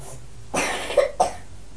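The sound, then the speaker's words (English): A child coughs twice in quick succession, a short rough burst followed by a second cough after a brief pause, clear with no talking. “How's your cough feeling?”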